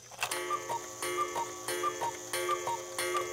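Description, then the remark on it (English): An electric oak cuckoo clock, just plugged in, ticks steadily, about five even ticks at a measured pace, over a constant buzzing electrical hum, with no voices. “Of course it works. Here, let me connect it. It's electric.”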